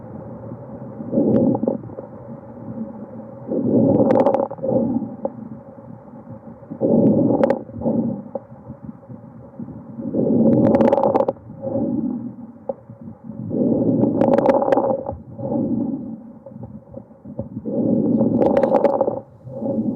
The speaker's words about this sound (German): Und hier hören Sie einen typischen Auskultationsbefund eines Knisterrasselns bei einer Lungenfibrose.